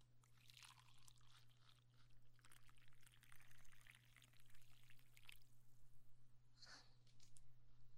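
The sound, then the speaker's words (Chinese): Coffee is poured into a cup in a steady, splashy stream lasting about five seconds, followed by a quieter pause with a brief light clink. A low, constant hum runs underneath and no one speaks. “那就给我倒一杯咖啡吧。”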